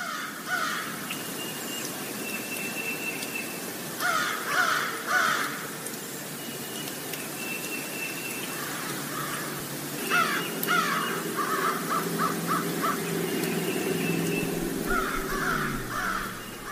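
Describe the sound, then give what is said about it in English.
Several crows caw in bursts of harsh, repeated calls, some loud, with a tufted titmouse calling faintly in between, over a steady outdoor hum in Bradford, Vermont, New England. “I believe we have a murder of crows here and one other bird.”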